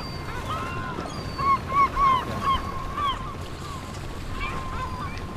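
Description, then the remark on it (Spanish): A fishing boat engine drones steadily in the port of Malpica at dawn as boats return from a night of fishing, while several gulls cry out in a short burst of squawks near the middle, with a faint wash of water throughout. “Hay un motor ahí sonando.”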